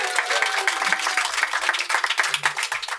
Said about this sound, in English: And we're, of course, joined by our wonderful audience here in a tent where it's not raining in Wales. Miracles. The people at the Green Man Festival, give yourselves a big round of applause.